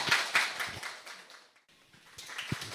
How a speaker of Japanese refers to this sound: それでは拍手をお送りいただきましょう。